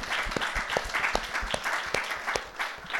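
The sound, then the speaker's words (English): A crowd applauding single parents, a steady wash of many hands clapping at fairly even loudness, with sharper individual claps popping out at a regular beat throughout the three seconds. No one speaks. “and I give you a round of applause for what you do, because I think you're doing absolutely an amazing job.”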